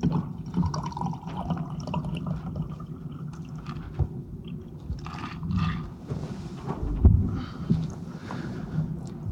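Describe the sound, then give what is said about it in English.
A drink of water is poured into a glass for a man during an interview, a steady gurgling trickle with a few soft knocks, with no one speaking. “Could I get a drink of water, please?”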